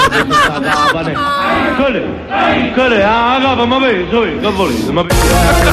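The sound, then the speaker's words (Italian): A chorus of riders screaming and yelling while hanging upside down on a fairground ride, recorded on one rider's phone, overlapping wails rising and falling in pitch, loud and continuous, ending in a burst of harsh noise. “Allora, fermi tutti, è che noi abbiamo un audio esclusivo. Siamo in orario, di quelli che stavano a capa sotto.”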